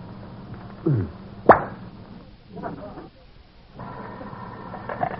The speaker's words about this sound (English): did you just open a bottle of brandy? Why, yes.